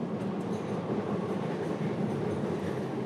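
A Paris metro train rumbles steadily along, a dense low roar with a faint rattling texture, continuous, with no voices.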